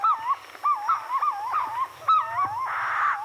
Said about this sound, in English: In a nearby tree, purple-throated fruit crows add their voices to the sunrise chorus.